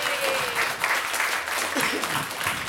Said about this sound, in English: Yeah, yeah, clap it up